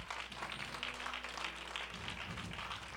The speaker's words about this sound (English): Come on, clap your hand before the Lord.